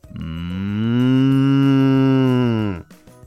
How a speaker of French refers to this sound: Eh oui, les vaches.